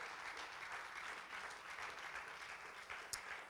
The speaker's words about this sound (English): Can you clap to him right now? Come on, everyone clap to him.